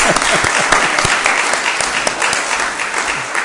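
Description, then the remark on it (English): An audience claps steadily for a few seconds, a dense, bright wash of many hands with no one speaking over it. “I wanted a clap too.”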